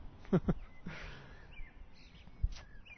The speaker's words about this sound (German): Die Amsel zwitschert uns.